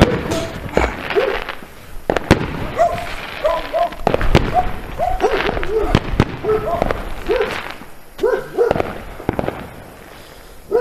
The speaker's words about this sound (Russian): Батареи не запускали, хочу на видео записать, как они будут запускать. О, наконец-то на Энгельса начали салюты